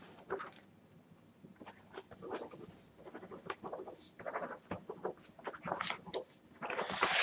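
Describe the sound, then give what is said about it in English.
Irregular rustling and scratching as someone looks for paper and then scribbles on it, with quick crinkly bursts growing busier toward the end and no voices. “Because I'm looking for paper here.”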